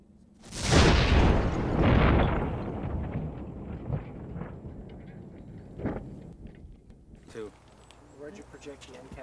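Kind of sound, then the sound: impact, pipe bomb explosion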